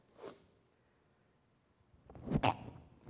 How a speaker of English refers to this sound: Instead, they sneezed. Excuse me.